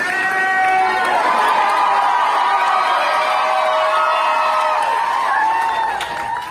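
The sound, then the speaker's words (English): Hospital staff cheer for a patient as he walks out, discharged after 64 days in hospital: loud sustained whoops and high-pitched voices blending together throughout, with no single voice standing out. “Here's a clip of the staff cheering for him.”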